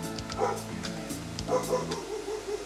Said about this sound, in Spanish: Oye, el perrito del vecino, Dios santo, no me deja trabajar en paz. Escuche.